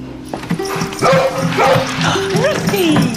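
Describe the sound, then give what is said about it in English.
A Labrador bounding into a room barks in several quick, loud bursts, mixed with high, rising and falling whimpers and yips, the excited sounds running almost continuously through the short stretch. “Their Labrador dog bounds into the room.”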